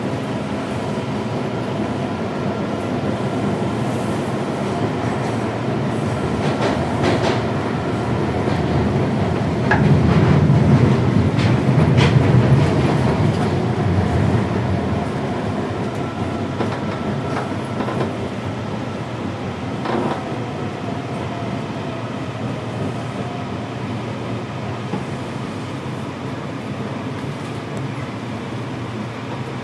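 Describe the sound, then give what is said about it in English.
A Red Line metro train to Shady Grove rumbles steadily through Farragut North station, the low roar swelling briefly around the middle with faint squeals and clicks of wheels on rails, then settling back to a constant drone. No voices. “This is Farragut North.”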